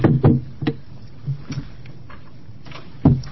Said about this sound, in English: Tap of the gavel will begin as a subcommittee.